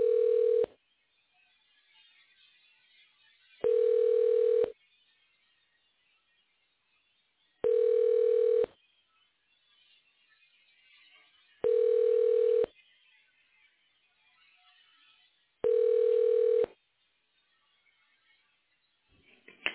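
Telephone line tones: five steady, evenly spaced beeps, each about a second long and roughly four seconds apart, with faint line hiss in the gaps and no voices.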